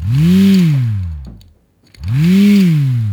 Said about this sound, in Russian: Чтобы вырся зазвучала, нужно закручивать с обеих концов и затем растягивать и ослаблять нить. От этих движений вырся начинает гудеть. Мне этот гул напоминает завывание или шум ветра.